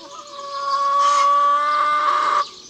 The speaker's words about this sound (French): Au poulailler, c'est l'heure de la ponte. Sous le regard attendri de leur maman, les petites poules s'appliquent et se donnent beaucoup de mal.